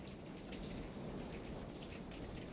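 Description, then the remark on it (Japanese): Steady rain falls continuously, a dense hiss of drops spattering on a surface with no pauses, even in loudness, with no voices present. “雨の音に紛れて京子は小さくつぶやく”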